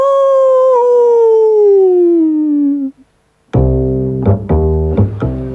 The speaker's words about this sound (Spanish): El hombre lobo. ¡Aú!